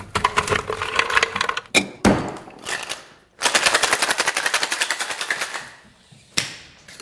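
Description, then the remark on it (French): Rapid, rattling bursts of ice clattering inside a cocktail shaker holding lemon juice and warm syrup, shaken quickly to cool it: two long vigorous runs of dense rhythmic knocking separated by brief pauses and a few sharp single clacks, with no talking. “Donc ce que je vais faire, je vais mettre des glaçons, je vais le shaker rapidement, ça va le baisser en température.”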